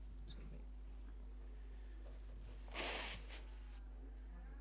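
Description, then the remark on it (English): Someone blows their nose once in a short, noisy burst with a quick smaller follow-up, over a low steady hum and otherwise quiet surroundings. “I'm just blowing my nose for those on the tape.”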